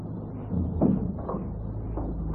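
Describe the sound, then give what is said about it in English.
A door swings shut with a soft, muffled thud, followed by a couple of fainter knocks as it settles, set against a steady low hum of room noise. “Just shut the door.”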